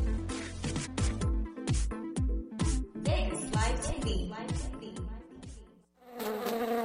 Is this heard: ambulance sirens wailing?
no